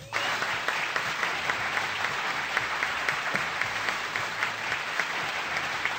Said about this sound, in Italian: Allora, io vi presento qui sul palco del Tamburin un applauso